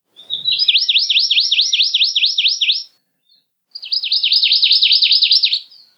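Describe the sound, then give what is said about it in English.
A male songbird's trill of rapid, repeated high notes, mechanical-sounding like an old sewing machine, runs in two long bursts separated by a short pause. It is loud and clear with no talking. “The song, which is similar across the islands and only sung by the male, is a series of repeated notes known as a trill, and sounds a lot like an old sewing machine.”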